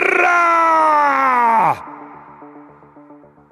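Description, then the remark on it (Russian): A loud, drawn-out shouted cry of "Bara!" from a Roman century of soldiers running while trying to keep formation, imitating an enraged elephant's trumpet, held for over a second before dropping in pitch and breaking off, followed by quieter tonal background sounds. “Крик разъяренного слона «Бара!» в нашем исполнении больше похож на вопль перепуганного слоненка.”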